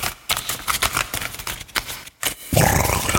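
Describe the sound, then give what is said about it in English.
Playing cards being shuffled: a rapid, papery flutter of clicks for about two seconds, a brief pause, then a denser, louder riffling burst at the end. No voices. “That's me shuffling.”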